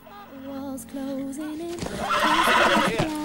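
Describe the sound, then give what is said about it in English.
A horse, Flicka, whinnies loudly and repeatedly as she is loaded onto a horse truck, her shrill neighs rising and wavering over a few seconds, growing more agitated toward the end amid some commotion. “She puts the basket down and walks towards the window and sees Jack and Gus load Flicka onto a horse truck.”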